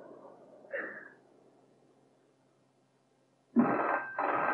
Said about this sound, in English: Can no one but me answer the phone? I am trying to get ready.